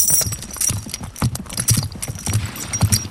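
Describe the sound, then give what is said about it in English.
Many horse hooves clip-clop in a steady, overlapping rhythm, moderately loud, with a faint jingle of tack and no voices: a group of 18 horses, six of them pack horses carrying supplies, heading off on horseback into the mountains across the Bogong High Plains. “So we've got 18 horses loaded up here. We've got six pack horses with us today, and they're carrying all the supplies that we'll need for the next 4 days.”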